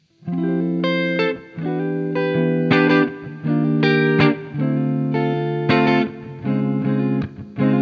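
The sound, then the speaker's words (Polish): An electric guitar plays through an amp on its normal channel, knobs at 12 and the presence control turned up to brighten the tone, giving a bright, crisp edge, strumming sustained chords in short repeated phrases with brief gaps, fairly loud, with no talking. “Rozkręcamy presence.”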